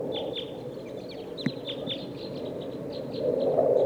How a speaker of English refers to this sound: 2 of type 2 birds here in the top of this pine tree.